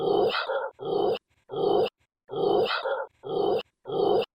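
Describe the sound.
A dog barks loudly at a man, about half a dozen rough, throaty barks with a growling edge, coming in a steady, insistent rhythm with short gaps between them and no one talking.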